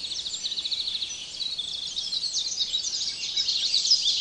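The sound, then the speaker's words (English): A dense dawn chorus in Canada's boreal forest: starting from a single bird, many birds sing at once, overlapping chirps, trills and warbles filling the air continuously, with no talking, building slightly in intensity toward the end. “Dawn in Canada's boreal forest is the audio equivalent of time-lapse photography. Starting with a single bird, it quickly crescendos to the point where it almost hurts.”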